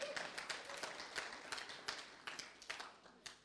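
Audience applause in Hobart for first-time visitors, a dense patter of many hands clapping at once with uneven bursts, steady for a few seconds.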